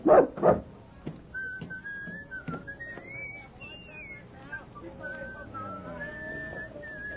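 A dog named Rags, left in a wagon at the circus, gives two quick, loud barks, then falls into a thin, wavering high-pitched whine that carries on quietly for several seconds.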